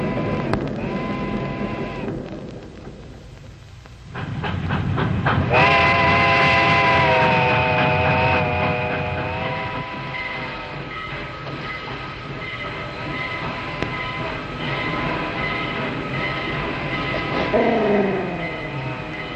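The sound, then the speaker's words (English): A steam train rumbles and clanks as it slows about a mile outside of town, stopping to take on water, with a loud, sustained high squeal of brakes rising midway and a set of falling tones near the end as it comes to a stop. “Oh, about a mile outside of town. She stops here to water up.”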